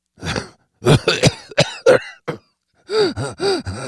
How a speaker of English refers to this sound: The tall man coughed, then laughed weakly.